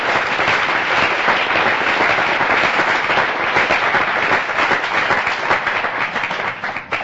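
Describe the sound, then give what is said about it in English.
A crowd breaks into sustained applause, dense overlapping claps forming a steady, loud wash that holds for several seconds before thinning slightly at the end. No one speaks. “Let us give a full applause to the very courageous members of our group.”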